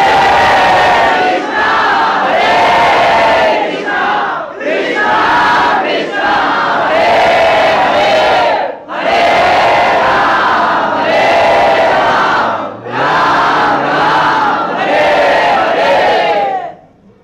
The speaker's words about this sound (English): they all, either with devotion or sheerly ritualistically, they go to the river Ganges or whatever other holy body of water there may be, Jamuna, ocean, and they submerge themselves, and very, very loudly, they all chant the Hare Krishna Maha Mantra.